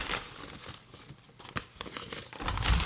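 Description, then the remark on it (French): Paper crinkles and rustles for a few seconds as five paper slips are drawn at random and unfolded, with scattered crisp crackles and soft tearing-like swishes, ending in a louder burst of rustling. “on va tirer maintenant du coup 5 papiers pour l'émission qui sera du coup la 12 ou la 13”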